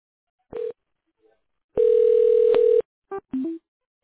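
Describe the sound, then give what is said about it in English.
Telephone line tones while a call is being transferred: a short electronic beep, then a steady ringing tone lasting about a second, followed by a few quick higher beeps. Clear, with no talking. “Okay, it's going to be ringing right now.”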